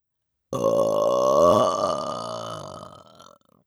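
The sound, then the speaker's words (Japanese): A single long, loud burp rumbles out for about three seconds with a throaty, voiced tone, then trails off. There is no talking or other sound around it. “あ、 また出ちゃいました。”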